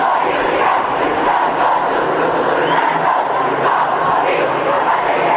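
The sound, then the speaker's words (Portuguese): A crowd of young voices, students of the Colégio Militar at an Olympic torch relay event, shouts a battle cry together, a loud, steady wall of chanting and yelling that holds for several seconds without a break. “E teve até grito de guerra.”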